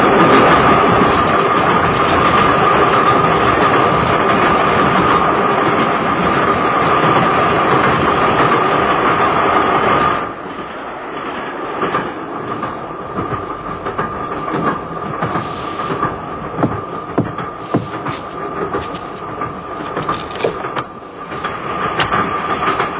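moving train

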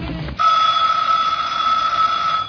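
telephone bell ringing

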